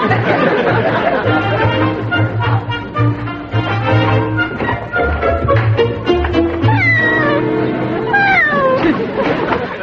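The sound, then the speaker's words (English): A cat yowls loudly and almost without pause, its drawn-out cries wavering and sliding up and down in pitch, over a low steady hum. “Maybe it's the burglar pretending he's a cat.”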